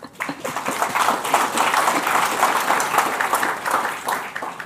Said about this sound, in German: wir uns an die Mitglieder des Redaktionsteams wenden für diese Aufgabe, würde ich auch nochmal um Applaus bitten. Und dieser Applaus gilt dann auch gleichzeitig an die Mitglieder dieses Redaktionsteams, dass sie diese Aufgabe übernehmen.